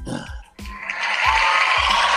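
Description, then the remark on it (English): A long, drawn-out yawn with a breathy, groaning voice that swells and holds, with a few soft low thumps underneath. “I was yawning because I'm sleepy.”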